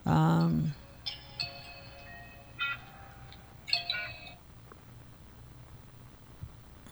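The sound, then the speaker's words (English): The speaker's own phone, not turned off, goes off mid-talk, sounding a few bright, bell-like chiming tones at uneven intervals over a low background hum, each tone ringing out briefly before fading. “You know, and I didn't take the time to turn this phone off. But let me see here. The ringers and stuff.”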